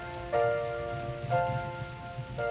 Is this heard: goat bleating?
no